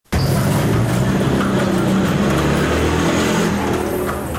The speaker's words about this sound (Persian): هاوانا پایتخت کیوبا که هنوز هم در برخی سرک‌های مزدحم آن موتورسیکل و گاڑی اسب در حرکتند